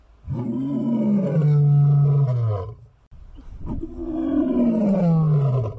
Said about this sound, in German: Na, habt ihr es alle erraten? Das war natürlich der Löwe.